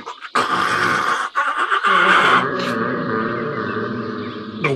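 A loud, drawn-out nose blow, honking and trumpet-like, with a harsh burst at the start that settles into a long, steady blast lasting several seconds. No one speaks.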